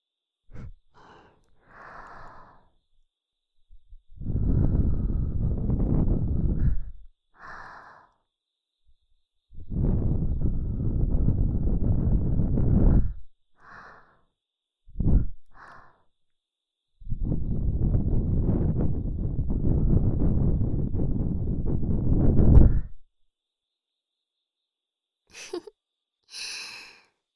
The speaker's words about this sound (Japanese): 耳の中に息をかけてあげるわね。